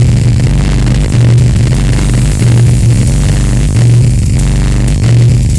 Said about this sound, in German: Die Geräusche auf dieser CD bewegen sich in einem akustischen Spektrum zwischen Brummen, Rauschen und Dröhnen.